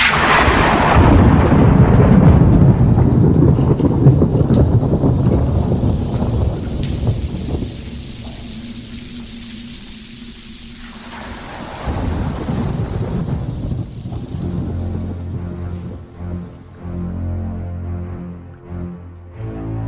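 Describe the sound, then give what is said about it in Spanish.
A heavy thunderstorm: a loud roll of thunder opens over steady rain, fades into a softer hiss, then a second deep rumble rolls in before easing off. “Porque llover, lo que se dice llover, va a llover.”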